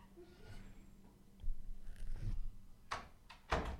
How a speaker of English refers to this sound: She could not have closed that door slower. I think she was trying to not make any noise.